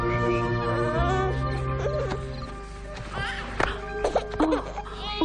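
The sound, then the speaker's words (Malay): A young child cries in wavering, uneven wails and sobs over a steady sustained musical backdrop that fills the whole stretch. “Tak. Jangan nangis. Mak ada. Sudah. Jangan menangis.”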